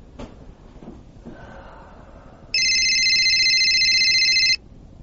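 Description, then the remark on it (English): After a few faint clicks and rustles, a cell phone alert for an incoming text message blares out: a loud, steady electronic tone lasting about two seconds, then cutting off abruptly. “A text message has just been sent to Murray's cell phone”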